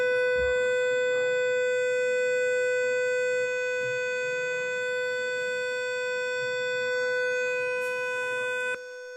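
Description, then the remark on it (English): A building fire alarm blares steadily with a harsh, unchanging electronic tone rich in high harmonics, loud and continuous before cutting off abruptly near the end, with faint murmuring underneath. “Fire alarm is different.”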